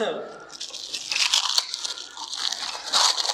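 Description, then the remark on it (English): Press-and-seal plastic wrap crinkles and crackles continuously for a few seconds as it is used to wrap drinking glasses, a bright, papery rustle with sharper crunchy bursts as it is pulled and pressed. “This press and seal wrap never works unless you don't want it to.”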